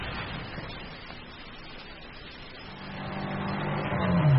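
A car parked just round the corner at dusk idles with a steady rumble, then revs up, its pitch climbing and its volume swelling as the vehicle pulls away. No voices.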